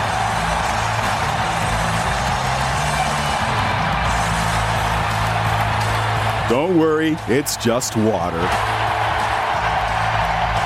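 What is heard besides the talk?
arena crowd cheering wildly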